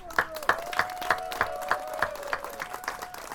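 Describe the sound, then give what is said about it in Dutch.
Loud applause in a steady, rhythmic beat after the alderman declares the swimming facility on the southern Wandelweg open, with sharp claps landing about three times a second over a sustained tonal hum and faint background murmur. “Hierop verklaarde de wethouder de zweminrichting aan de zuidelijke Wandelweg voor geopend en dankte hij de aanwezigen, waarna een luid applaus losbarstte.”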